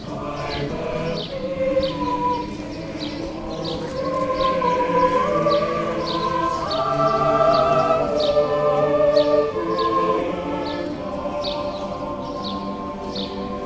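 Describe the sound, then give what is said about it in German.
Sustained layered voices hold long harmonic notes, a Latvian choir rehearsing outdoors around a street corner, while bright, repeated bird chirps ring out above them throughout. “Es kann passieren, dass hinter der nächsten Straßenecke einfach ein Chor übt, mit Vogelstimmenbegleitung.”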